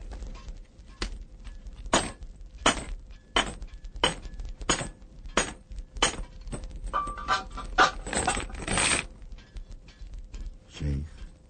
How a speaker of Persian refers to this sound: شخصی زنجیرهای دست مرد عرب رو باز میکنه.